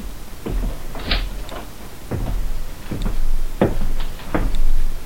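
A door being opened as three men come in, with a series of sharp clicks, knocks and brief scraping creaks spread over a few seconds, fairly loud, with no voices.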